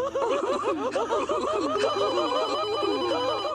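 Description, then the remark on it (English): A telephone rings continuously with a warbling, trilling tone, fairly loud, layered over a busy backdrop of other sounds for a few seconds, before a boy picks up the phone. “They embrace, then the boy picks up a phone. Like, hello?”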